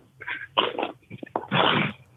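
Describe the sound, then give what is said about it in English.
A dog named Brutus makes a series of short, loud vocal bursts, uneven in rhythm, ending in a longer, sustained whine-like sound; no one talks. “This dog won't give you a moment's peace.”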